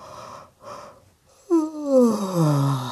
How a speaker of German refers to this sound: Sie legt sich ins Bett. Frau Usebuse gähnt.